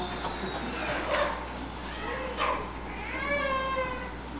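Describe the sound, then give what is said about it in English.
A child's voice gives a soft, drawn-out imitation of a cat's meow, with a few quieter vocal sounds before it, heard against low background hum. “Kind of a quiet cat, but I recognize that. Meow.”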